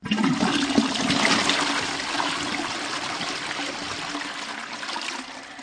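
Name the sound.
toilet flushing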